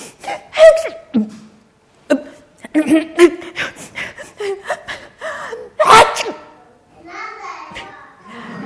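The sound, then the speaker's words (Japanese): A person with a cold sneezes over and over in the rain, with sharp gasping inhales before each burst and a loud, forceful sneeze near the end. The sneezes are uneven, with short breathy pauses between them. “彼は風邪ひきの人がしつこいくしゃみに悩まされているのを聞いた。”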